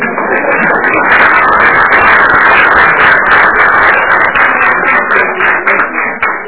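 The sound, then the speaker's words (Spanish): Many people applauding steadily at the close of a meeting session, a dense, continuous patter of many hands clapping at once that holds for several seconds before thinning slightly at the end. “No habiendo más temas para tratar, nos merecemos un aplauso.”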